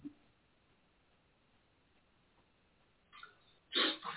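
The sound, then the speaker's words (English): A single sneeze during a church prayer gathering, near the end of a quiet stretch, with a short breathy intake just before the sharp, loud burst. No one is talking. “Bless you, Jesus.”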